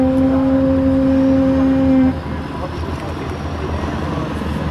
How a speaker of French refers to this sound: Et l'hélicoptère qui continue lui ses rotations, qui emmène des colis, des caisses un peu plus petites.